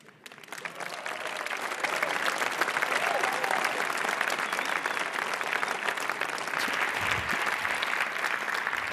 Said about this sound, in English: give a warm applause for Dr. Benjamin Leo Bordirsky.